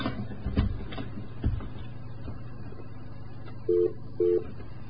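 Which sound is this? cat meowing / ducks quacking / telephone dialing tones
telephone dialing tones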